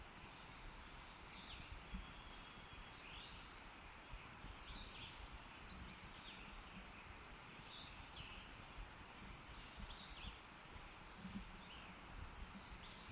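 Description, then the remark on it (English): Two thin, high bird call notes given by a bird close at hand, each brief and fairly quiet, set against a steady rustling, breezy background with no talking. “2 thin notes were given by a bird close at hand, not the individual giving position notes.”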